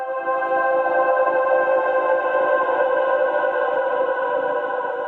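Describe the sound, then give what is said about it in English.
A sustained, heavily processed vocal drone with a grainy, glitchy digital crackle running through it, forming the intro of a music track. It holds steady and fairly loud for the whole stretch, with no words spoken. “I think, yeah, it's definitely organic with this kind of almost like digital static, like granular.”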